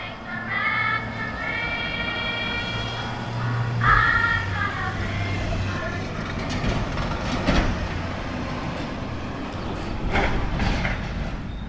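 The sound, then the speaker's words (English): A FedEx delivery truck rumbles loudly outdoors in a parking lot, its engine droning steadily with rising whines and occasional clunks and rattles for the whole stretch, with no one talking. “That one was an actual FedEx truck.”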